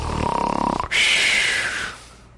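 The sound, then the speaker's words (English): A voice imitates a loud snore: a rattling, buzzing inhale lasting nearly a second, then a long breathy hiss of an exhale, with no talking. “They're not even snoring in tongues.”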